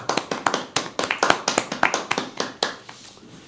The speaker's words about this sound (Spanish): Eso siempre parece un aplauso. Gracias, gracias.